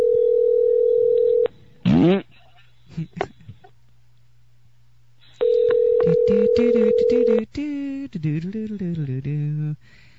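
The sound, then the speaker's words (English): A steady telephone ringback tone sounds through the earpiece during a prank call to a relative in Pennsylvania, two long rings with a pause between, while waiting for an answer; a voice then picks up and starts talking. “Get to the phone.”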